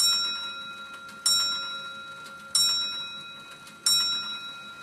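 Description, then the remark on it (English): A grandfather clock beside a fireplace in a living room chimes three o'clock in slow, evenly spaced bell strikes, each ringing out clearly and fading before the next, with no voices present. “On the clock, 3 o'clock.”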